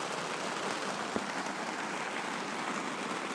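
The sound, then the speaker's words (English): Heavy rain pouring down on a tent at the beach in a steady, dense roaring hiss that never lets up, with a single sharp tap partway through and no voices. “Since my last boo on the beach, it's now pouring down of rain, and yeah.”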